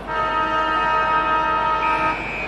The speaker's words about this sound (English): Blow the siren.